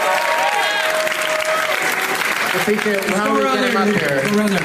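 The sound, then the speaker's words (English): A crowd applauds steadily for the whole stretch, a round of applause for those who made name tags, a dense wash of clapping with cheers and voices rising over it toward the end. “Round of applause for all the name tags, you guys.”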